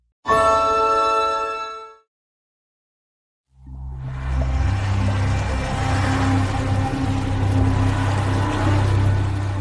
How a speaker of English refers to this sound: A speedboat zooms out across the bay. Everyone on board intensely scans the top of the water. They're looking for fins or noses.